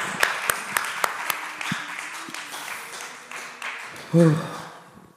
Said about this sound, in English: Alright, let's clap for God.